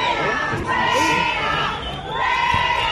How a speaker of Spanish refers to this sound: Entre los gritos de fuera, fuera, … y Begoña Villacís, que la acompañaba, intentaban pedir un feminismo más inclusivo que no se rigiera por dogmas ideológicos.